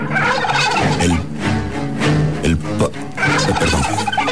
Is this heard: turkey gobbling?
yes